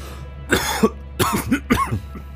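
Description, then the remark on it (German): Three harsh coughs come in quick succession, each a short raspy burst separated by brief pauses, with no talking around them; the coughing is caused by dusty air. “Die Luft ist staubig. Ihr müsst husten.”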